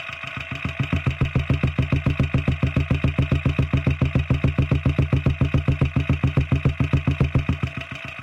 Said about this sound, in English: It sounds like a sewing machine. It's like a rattle. The valves going up and down. I'm pressing the contact mic into the exhaust.